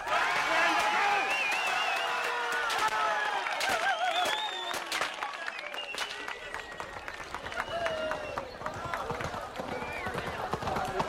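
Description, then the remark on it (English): A crowd surging forward at a Pony Express ride event: a loud, continuous din of shouting and cheering voices, scattered claps, and quick overlapping thuds like running feet, steady for the whole stretch. “It's becoming incredibly difficult just to hear myself. The crowd's surging forward.”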